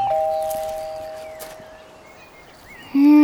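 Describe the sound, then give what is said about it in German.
A doorbell at the house of the Hase family chimes two notes: a higher ding that rings out and slowly fades, then a louder, lower tone that sounds and holds at the end. No one speaks. “Ich klingel mal.”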